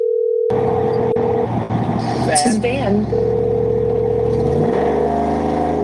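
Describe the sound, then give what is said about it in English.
A deep, loud V8 engine in a vehicle being driven rumbles, rising in pitch as it revs near the end, with a steady electronic tone and some muffled voices over it. “Man, is that like a V8 in there?”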